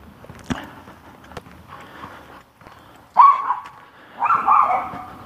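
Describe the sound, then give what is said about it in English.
A dog barks twice, loud, in two drawn-out bursts near the end, after a stretch of quieter rustling and a few sharp clicks. “See if I can get beyond this dog here.”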